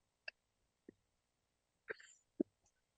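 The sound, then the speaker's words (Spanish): A few short, muffled coughs come at irregular intervals, fairly soft, with quiet pauses between them and no talking. “Perdón por la tos, pero es un proceso que se detalla.”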